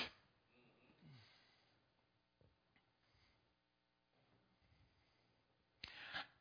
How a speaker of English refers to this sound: You take another one. It's like you're just breathing in all of this stuff.